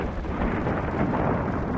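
heavy rain falling

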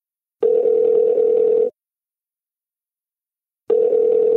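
telephone dial tone

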